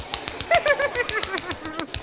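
A quick, steady run of light, hollow slaps from tapping on a cheek, about fifteen taps in two seconds, with faint wavering tones sounding underneath.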